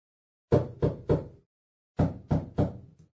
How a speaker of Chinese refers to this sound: 什么声音这么响？人们吓坏了，以为是开炮呢。哦，原来是宝贝猪在敲门。